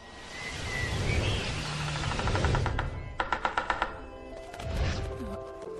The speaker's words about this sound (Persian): وای یه دارکوب بود.